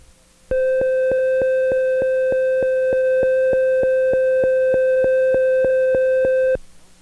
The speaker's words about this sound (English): The side advance button is behind the automatic manual switch and is labeled with a raised S. To advance to the next side, hold this button in until you hear this tone.